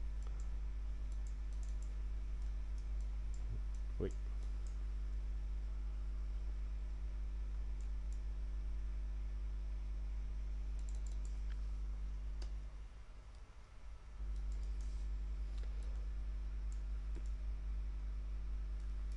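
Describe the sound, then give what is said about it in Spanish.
Scattered, faint clicks of a computer mouse and light keyboard typing, irregular, over a steady low electrical hum with no voices, as text is selected, cut and pasted in a Windows 8 text-control demo. “O podemos cortar un determinado texto, volver a pegarlo, tanto con el teclado como con el ratón.”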